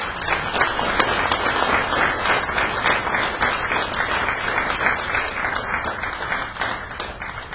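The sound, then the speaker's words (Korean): A crowd applauds steadily, a dense, even wash of many hands clapping that holds at a fairly loud level for several seconds without any voices, welcoming a deacon who is about to give a testimony. “박수로 환영하세요.”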